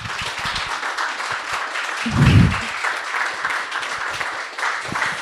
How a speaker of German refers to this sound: Und ja, ich würde mich voll freuen, wenn ihr dem Leonard Gabriel Heikster hier nochmal einen richtig warmen, fetten Applaus dalassen würdet.